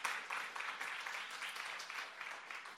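A crowd of people claps steadily, a dense wash of many hands holding at an even level with no voices standing out, applauding news of a person who asked to become a Christian.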